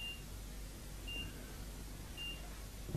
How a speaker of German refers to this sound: Wieder Piepser. Dass der Alltag gleich einholt.